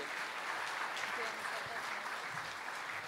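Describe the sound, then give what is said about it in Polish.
Steady audience applause at an awards ceremony for Dr. Irena Eris, a dense continuous patter of many hands clapping at an even loudness throughout, with no pauses or voices standing out. “Ogromne brawa, doktor Irena Eris.”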